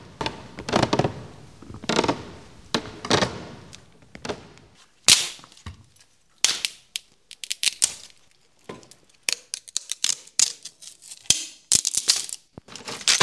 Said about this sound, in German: Vorsichtig gehen sie die Treppe hoch, einer nach der anderen. Bei jedem Schritt knarzt die Treppe, immer lauter, so scheint es.